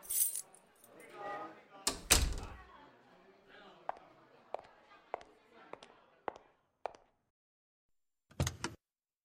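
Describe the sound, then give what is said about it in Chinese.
Car keys jangle in a couple of bright metallic bursts as they are handed over, followed by a string of light clicks and clinks, then one last short jingle near the end, with faint murmuring early on. “外边没地方坐了，把你的车钥匙给我吧，我去你车上等你。”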